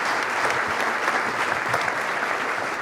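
Audience applause for a team, a steady, dense patter of many hands clapping at an even loudness throughout, with no voices standing out.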